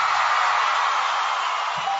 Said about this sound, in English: Bringing you the word from the trenches, please give a big round of applause for Henry Shively.